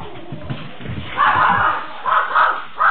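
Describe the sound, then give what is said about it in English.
A dog barks at a bear in three loud, harsh bursts, a long one followed by two shorter ones, over faint background noise. “I am glad the dog didn't catch the bear.”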